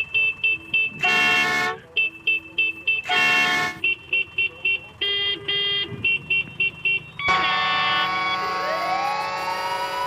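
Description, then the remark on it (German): Car horns honk in busy city traffic in Cairo, tapping out rapid rhythmic bursts of short toots, then blending into a long, sustained blare of several horns at once. “Und obwohl es in Kairo offiziell verboten ist zu hupen, spielen manche Fahrer ganze Konzerte auf ihrer Hubklaviatur.”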